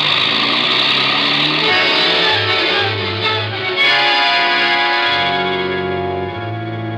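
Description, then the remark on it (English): A taxi engine roars and revs loudly as the cab speeds off toward the Wrigley Building on Michigan Avenue, its tone swelling and shifting for several seconds with a distorted, echoing, effects-heavy quality and no voices. “Cabby, Wrigley Building, fast.”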